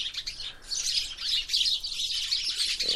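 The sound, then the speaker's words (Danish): A chorus of birds in the trees at the Bella Center chirps and calls continuously, bright, dense high-pitched twittering overlapping throughout, steady with no speech. “så hujer alle de her fugle til der hundebils”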